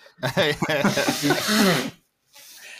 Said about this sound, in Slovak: To reálne si smrkáš nos teraz, hej?